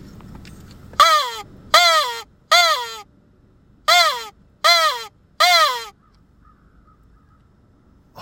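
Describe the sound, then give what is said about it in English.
Six loud, harsh crow caws blown on a crow call, in two quick sets of three with a short pause between, with no talking. “Four of them flew by and you just saw I got a crow caller.”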